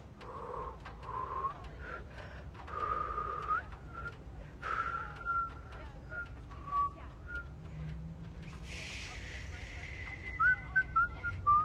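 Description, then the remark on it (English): Someone seated in a parked car whistles a meandering tune in short phrases, clear, over a steady low rumble, with a few higher, chirpier notes toward the end. “He continues to look through the binoculars as they whistle.”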